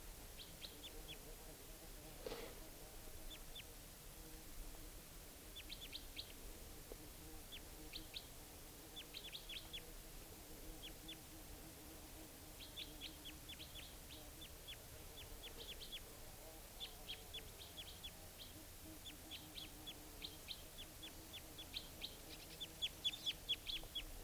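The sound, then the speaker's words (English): Wild birds, including a type 2 bird in a nearby tree, call in repeated bursts of short, high-pitched chirps, scattered in clusters throughout, over a steady low background rumble. No one speaks. “And the type 2 and type 4 bird, well, at least the type 4 took off for good, and I think it's coming back because it wasn't joined by the type 2 bird, who's still in a nearby tree.”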